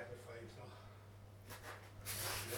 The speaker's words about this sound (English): The noisy balloon. The noisy balloon.